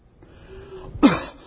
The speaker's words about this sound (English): The cough. Can hardly get a sentence out, but we cough.